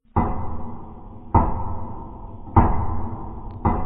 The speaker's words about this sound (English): So this time, when he went back in the house, he stayed by the door with his hand on the latch and waited to see if the knock would come once more. And the rapping came yet again.